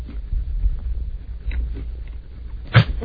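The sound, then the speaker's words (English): Wet chewing and crunching of salty food, with a sharp crunchy bite near the end over a low background rumble; no one speaks. “Don't just look at it, …. Eat it.”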